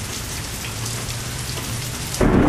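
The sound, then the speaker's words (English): Heavy rain hisses steadily throughout, and near the end a deeper, louder rumble of thunder swells in beneath the downpour, a few seconds after a lightning flash. No one speaks. “Lightning.”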